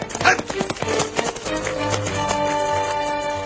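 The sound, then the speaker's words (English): A rancher's long-limbed horse's hooves clip-clop in a quick, uneven run of sharp taps for about a second, then fade beneath a steady, droning tonal background with no talking. “The rancher sat thin and dry and tall on his long-limbed horse.”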